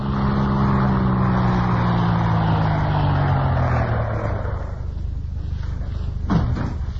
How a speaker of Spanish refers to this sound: El lujoso auto se detuvo. Estaban ya en los hermosos jardines de una soberbia mansión.